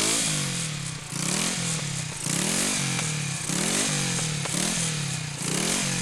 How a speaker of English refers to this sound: What's wrong? Our motorcycle is stalled and we have to start all over again.